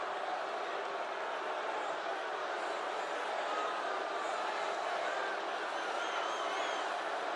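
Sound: crowd cheering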